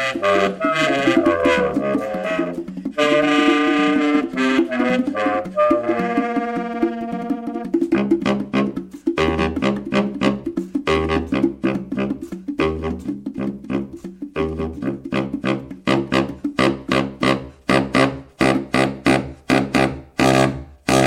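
A saxophone honks and screeches in loud, raw bursts and long blaring tones, then gives way to sharp rhythmic stabs of jazz accompaniment. No one speaks.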